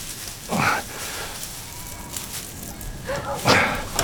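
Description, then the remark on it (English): A dog barks twice, two sharp separate barks a few seconds apart, moderately loud over a low outdoor background hum, while working a flock of sheep. “Good dog.”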